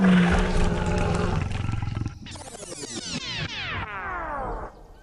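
A lion roars loudly in an audio game, a deep sustained growl that breaks into a series of rising, harsh snarling bursts, with no talking over it.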